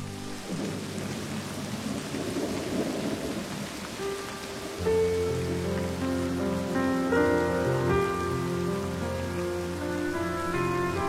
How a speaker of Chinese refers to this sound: 下雨了，冬夜的雨听来就冷